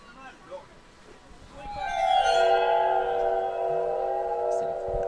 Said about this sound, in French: C'est les verres musicaux. Un orgue à verre.